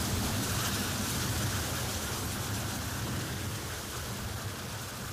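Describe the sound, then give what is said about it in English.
During a firefighter training drill at a prop tank, a hose sprays a protective water curtain in a steady, dense hiss with a low rumbling roar beneath, holding constant and loud throughout with no voices. “They must keep the curtain of water intact for protection.”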